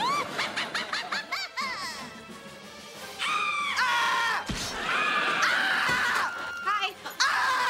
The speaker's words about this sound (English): And, like, who, no human reacts to horror movies that way, just, like, full shoveling popcorn into your mouth and also screaming at the same time.